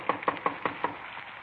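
Five quick, evenly spaced knocks on the wooden door of a small redwood house at 3113 Nordhoff Street in the San Fernando Valley, knocked from the porch in the rain, hollow, followed by a short stretch of quiet. No one speaks.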